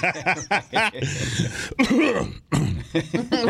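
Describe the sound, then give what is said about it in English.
A loud bout of throat clearing: several rough, raspy hacks and gravelly rumbles in quick succession, with brief pauses between them and no speech. “Sorry, I had to clear my throat.”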